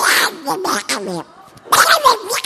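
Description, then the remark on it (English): A man's voice imitates Donald Duck getting mad during a sermon: loud, raspy, sputtering squawks in two angry bursts separated by a short pause, with no intelligible words. “Donald Duck getting mad. Like that.”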